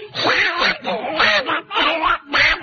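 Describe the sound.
A person does a raspy, garbled Donald Duck voice, quacking out a rapid stream of nasal syllables in several loud bursts, reciting the nursery rhyme Simple Simon into a BBC microphone.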